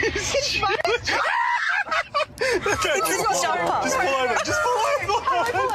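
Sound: people screaming and yelling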